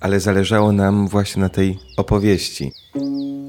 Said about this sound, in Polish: W takim razie wydaje mi się, że ta altówka i te ptaki, które słychać w tle, to jest taki symbol starego wioskowego cmentarza, gdzie są duże drzewa, dużo ptaków i skrzypiąca furta.